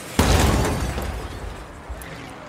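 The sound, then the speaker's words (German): A single loud, heavy slam as a camera robot, flung 4 metres through the air by a vehicle, hits a house wall, followed by a crackling, shattering rumble that slowly fades, with one small crack near the end as its lens cracks. No voices. “Doch der Kamerabot hat keine Chance, und schon das nächste Fahrzeug erwischt ihn und schleudert ihn 4 Meter durch die Luft, wo er an eine Hauswand knallt.”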